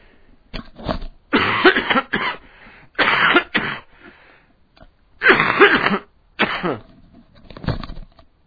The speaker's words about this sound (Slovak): Prepáčte, mám dosť kašlem. Sa ospravedlňujem. Ale nebojte sa, nie som nakazlivý.